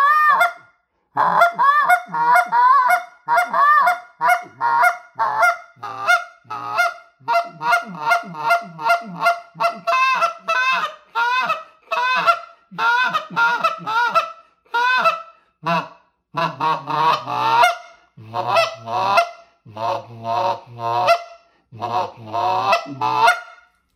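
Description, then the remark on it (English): A goose call, a low-pressure finesse call with a deep goose tone and wide range, blown in a long, rapid run of honks and short clucks, with a few drawn-out lower moans mixed in, loud with no talking. “It doesn't take much pressure to use it, but it has, again, the deep goose, but it has a lot of range.”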